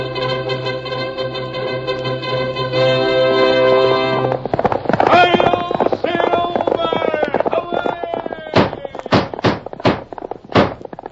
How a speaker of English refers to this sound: Horse with the speed of light, a cloud of dust, and a hearty hi-yo, Silver, the Lone Ranger.